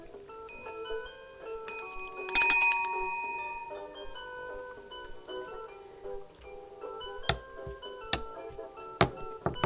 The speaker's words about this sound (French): Petit ours brun joue dans sa chambre et il entend le téléphone. Dring, dring.